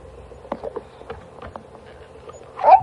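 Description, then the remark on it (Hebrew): Soft scattered taps and patter, then a single short, high-pitched whimper from a dog wanting to get into the water rises near the end, brief, with no one talking. “כלב רוצה להיכנס למים.”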